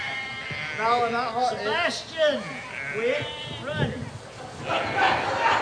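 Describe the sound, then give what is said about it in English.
Sheep bleat repeatedly, several wavering, quavering cries overlapping one another, with a murmur of voices and outdoor commotion underneath as excited children try to get close to the sheep. “So, of course, these kids are excited about the sheep.”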